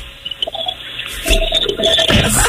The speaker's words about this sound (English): No, I'm actually hiding in the bathroom waiting for my kids. Let us hear the toilet flush.